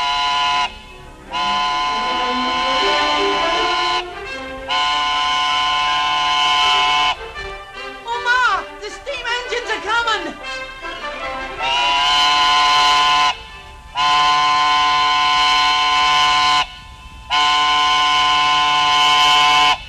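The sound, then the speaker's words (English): The whistle of a steam engine powering a threshing machine sounds a series of long, loud, steady blasts separated by short gaps, with a wavering, warbling stretch in the middle. No one speaks. “it's not like it used to be when men battered the steam engine the whole livelong day”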